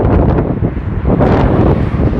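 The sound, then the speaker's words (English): Loud, continuous wind blowing into a microphone and into the speaker's face, a dense low rumble with gusty surges that swell around the midpoint and stay strong to the end, with no voices. “Probably windy as hell.”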